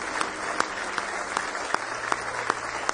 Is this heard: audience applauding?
yes